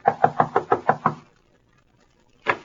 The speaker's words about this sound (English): Knock on the door